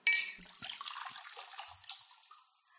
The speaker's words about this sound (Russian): Вот кувшин, который я только что сделал. Налей в него молока.